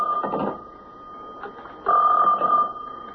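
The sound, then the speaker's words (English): A special telephone line rings in two short bursts separated by a pause, fairly loud, with a faint steady electrical hum running underneath. “Hey, Inspector, that's a special phone. I'll call you right back.”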